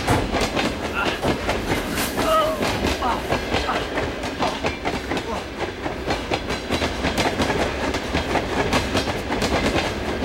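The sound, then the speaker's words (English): A moving train rumbles steadily along the tracks, its wheels clattering in a continuous clickety-clack with a brief metallic squeal, loud and close throughout. “Harry and Nikolai jump from the moving train into the weeds beside the tracks.”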